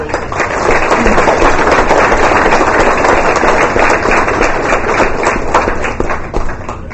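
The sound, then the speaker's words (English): A crowd applauds with dense, rapid clapping that stays loud and steady for several seconds before easing slightly at the end, with no clear talking over it. “Round of applause for our”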